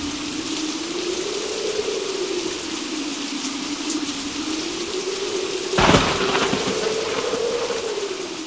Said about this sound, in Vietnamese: Mưa rơi trước thềm như thác đổ, ngoài sông gõ lanh canh